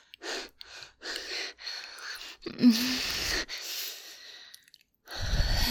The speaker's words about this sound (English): I need a moment. Okay, sweetie. At least until the panting stops.